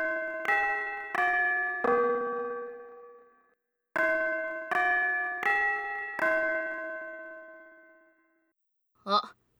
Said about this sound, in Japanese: チャイムだ。残念だったね。教室に戻りな。